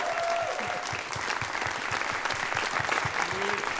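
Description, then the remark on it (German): An audience applauds a performer steadily and fairly loudly throughout, a dense wash of many hands clapping, with faint voices and a brief whistle-like tone mixed in. “nochmal Applaus für Mo bitte an der Stelle”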